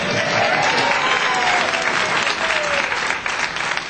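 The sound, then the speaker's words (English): Sustained applause from a live audience at a live taping of the radio show Planetary Radio, applauding the host's daughter, who played guitar, and his brother. A dense, steady patter of many hands clapping at full volume for several seconds with no talking over it. “Let's hear it for flagrant nepotism.”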